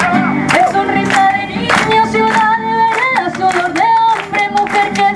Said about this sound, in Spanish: ¡Palmas!